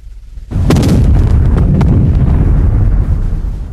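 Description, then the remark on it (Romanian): Artillery shells fire and explode, a salvo of four shells fired on command: after a brief quiet moment, a sudden loud blast breaks into a sustained, heavy roar and rumble, with a few sharp cracks standing out early on. “Două gradații stânga, încadrați cu patru obuze. Foc!”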